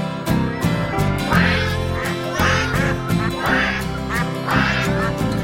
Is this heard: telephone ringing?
no